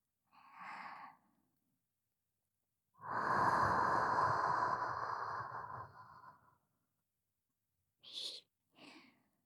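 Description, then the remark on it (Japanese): Close, airy breathing right at the microphone: a short breath, then a long, loud exhale lasting several seconds, followed after a pause by two quick, soft puffs of breath. “私の吐息感じる？”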